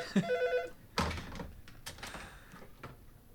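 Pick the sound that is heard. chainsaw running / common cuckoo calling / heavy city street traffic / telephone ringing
telephone ringing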